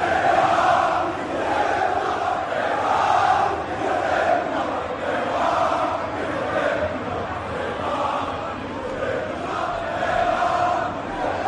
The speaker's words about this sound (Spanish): Abucheos a Messi, graves insultos a Neymar, y el único que se ha salvado de la quema ha sido, Kylian Mbappé. Sí, era un referéndum en el Parque de los Príncipes después de la eliminación del otro día, y la afición ha sido clara.